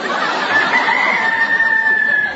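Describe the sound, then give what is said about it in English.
A young hen that may be turning into a rooster crows like one: one loud, drawn-out, slightly strained call lasting about two seconds, with no talking over it. “Well, the vet seems to think that she's becoming a rooster.”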